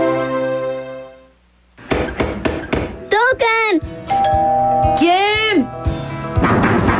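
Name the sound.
doorbell ringing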